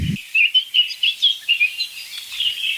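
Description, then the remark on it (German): High, quick bird chirps repeat in a steady run of short tweets, moderately loud, with a brief low thump at the start and no voices. “Ich würde mal sagen, in mir ist 50-50, dass das gelingt, weil klassischerweise, wenn ich sowas versuche, sind die Vögel entweder gerade still oder gerade woanders oder ich bin nicht in der Lage, die zu hören.”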